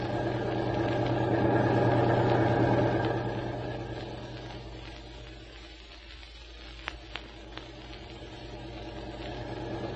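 car engine running

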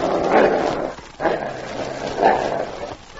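dog growling

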